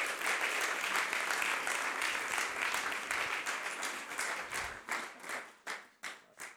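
A crowd applauds steadily, a dense wash of clapping that holds for several seconds and then thins out, with the last few scattered claps trailing off individually at the end.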